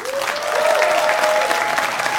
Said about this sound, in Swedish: Så hur många i publiken är för det här? Applåderar ni som tycker det är en bra idé?